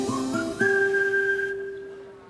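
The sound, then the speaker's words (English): A clear whistle rises through two quick short notes, then holds one long steady tone that gradually fades, loud with no talking. “Every time you hear that whistle, you know what's going on.”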